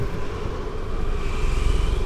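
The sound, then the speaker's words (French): A small wind turbine whirs steadily, a continuous mechanical hum over a deep, rumbling roar with gusty buffeting that swells slightly toward the end; no one speaks. “On a une éolienne qui tourne, une toute petite.”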